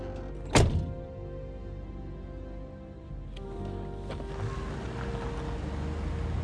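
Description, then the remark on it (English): A car door shuts with one solid thunk as someone gets out of the car, over a steady low engine rumble, followed a few seconds later by a couple of faint clicks as the idling continues. “gets out of the car and waves to him.”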